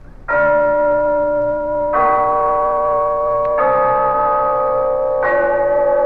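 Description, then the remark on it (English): The clock bell of Glen Falls Town Hall chimes four loud, evenly spaced strokes, each rich metallic tone ringing on and blending into the next, with no voices present. “Yes, there's the clock in Glen Falls Town Hall telling us it's time for Rinso's story of Big Sister, brought to you by the new soapy rich Rinso.”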